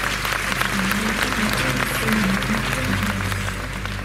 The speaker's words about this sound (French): Un tonnerre d'applaudissements pour mademoiselle Inès Chico-Roussel, Miss Alpes du Sud 2023.